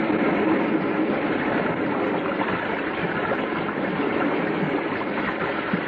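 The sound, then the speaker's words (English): A steady, loud rush of water gushes forcefully and continuously with no pauses, a dense roaring hiss, from a good-sized underground spring struck through stone below ground. No voices are heard. “You just ran into the bottom of a pretty good-sized spring.”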